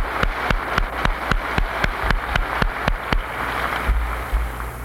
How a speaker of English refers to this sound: I'd like for you to give an applaud to your officers here and also to their wives who've had such a part.